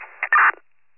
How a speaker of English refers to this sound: County radio is static.